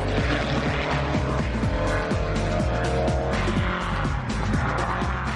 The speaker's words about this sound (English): It's made from an old steel gate, a Jeep engine, and some Beetle panelling, but this car looks right at home on the racetrack. And JJ seems determined to push the car to the limit.